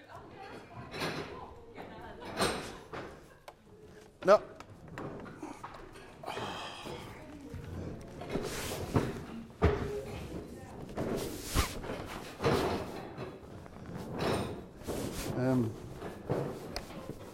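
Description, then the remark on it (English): Repeated wooden scrapes and thumps as chairs are dragged and shifted across a floor to move them out of the way, irregular, with a voice speaking briefly amid the clatter. “So just let's get the chairs out of the way.”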